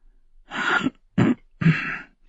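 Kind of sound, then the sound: human body sound, man clearing his throat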